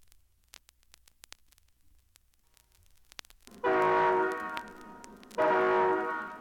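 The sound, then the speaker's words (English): After a few seconds of faint crackle and clicks, the horn of a Great Northern passenger train sounds two loud, long blasts with a brief gap between them. There is no talking. “All aboard for a great trip on a Great Northern train,”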